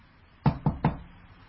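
Three quick knocks on a door in an even rhythm, fairly crisp, with a quiet background and no voices.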